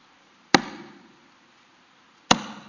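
Crutches clunk twice in a palace hallway as an older teenage boy on crutches comes down it late to dinner: two sharp, hard knocks spaced well apart, each trailing off in a short ringing echo. No one speaks.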